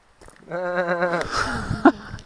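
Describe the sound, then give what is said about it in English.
A person mimics a sheep with a single wavering bleat lasting under a second, among a few sheep on the misty way down from Dale Head, followed by some muffled shuffling and faint background noise. “We've now just got a few sheep. What do you think, sheep?”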